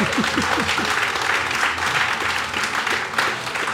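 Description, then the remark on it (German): A crowd bursts into steady, dense applause, loud throughout, with a few brief cheering voices rising through the clapping near the start. “Oh, das ist ein Applaus für das kommt ja fast die Tränen.”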